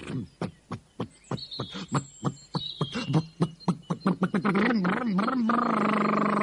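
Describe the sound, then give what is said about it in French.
A propeller engine cranks over with slow, regular coughing pulses that quicken and blend into a steady, continuous droning roar as it catches and runs, its propellers stirring up swirls of snow. “Ses hélices se mirent à tourner, mais elles ne soulevèrent que des tourbillons de neige.”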